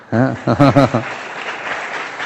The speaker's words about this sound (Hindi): तेज ताली बजाइए।